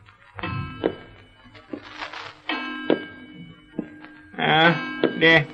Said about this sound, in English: Certainly, I hear it. And I see where it's coming from, too. That ain't nothing but an old grandfather's clock is striking.